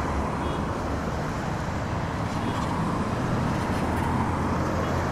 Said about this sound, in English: You can probably hear the fact that I'm just about quarter of a mile away from the I-90, the main route that runs from Seattle down to, well, Yellowstone.